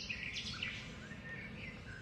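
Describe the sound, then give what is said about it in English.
Several birds chirp and call in bright, overlapping bursts over a steady low outdoor rumble in the wetlands of Everglades National Park in southern Florida, like a lively marsh chorus with no one speaking. “Oddly enough, besides all those birds, I'm not seeing too many animals here.”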